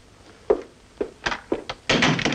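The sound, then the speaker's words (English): A man opens a door for a woman, who goes out: a few soft, dull thunks and clicks spaced about half a second apart, ending in a longer, broader rush of noise. No one speaks. “He opens the door for her and she goes.”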